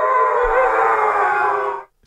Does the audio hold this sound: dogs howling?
yes